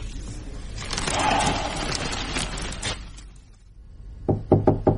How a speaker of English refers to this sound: Not many more knuckle wraps on your door to go.